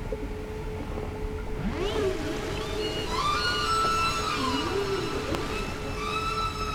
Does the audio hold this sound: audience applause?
no